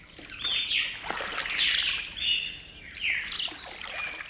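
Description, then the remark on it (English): Several birds chirp and call in overlapping bursts, bright and clear, with a soft watery trickle in the background and no voices, beside the Rio Paraná, a broad, sluggish river forming Argentina's northern border in South America. “This is the Rio Paraná, the second biggest river in South America after the Amazon.”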